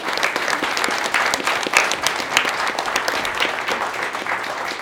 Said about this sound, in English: A huge round of applause for all the players.